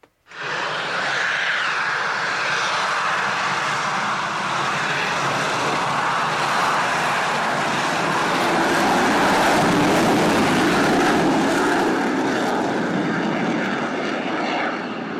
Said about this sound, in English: And that was the Eurofighter taking off with full afterburner, or reheaters, as they call them here.